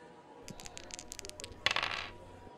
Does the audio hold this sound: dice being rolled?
yes